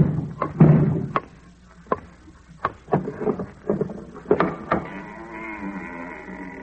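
knocking on a door

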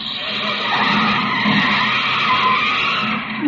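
car brakes screeching

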